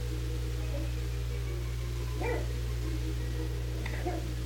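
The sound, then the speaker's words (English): A small dog, a poodle, gives two short, fairly high barks a couple of seconds apart over a steady low hum, with no one talking. “That's our dumb poodle barking.”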